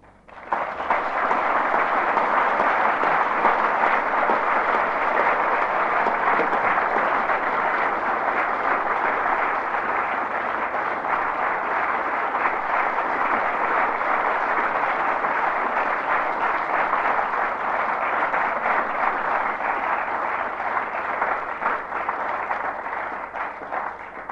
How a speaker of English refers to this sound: the warmth of your applause indicates, much better than words of mine, your appreciation of the lecture which has just been delivered.